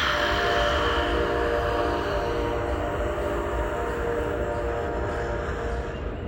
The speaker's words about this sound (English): Yeah, that was good. Perfect timing on that whistle.